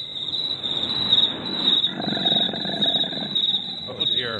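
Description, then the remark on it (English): Crickets chirp continuously in a steady, high-pitched trill that runs the whole time, layered over a dense, low rumbling murmur of background noise. “When we let the crickets play too long, some of the other forest animals come out.”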